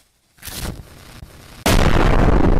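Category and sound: sound effect, explosion sound effect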